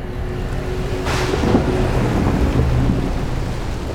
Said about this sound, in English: We continued on, trundling through the storm, taking more lightning hits.